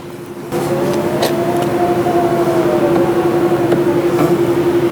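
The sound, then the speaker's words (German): A Tesla Model X electric car's steady motor hum rises in on top of rolling road noise after a short pause, with a soft whine that gently climbs and falls in pitch, fairly loud, with no talking. “Genau, es ist ein Model X.”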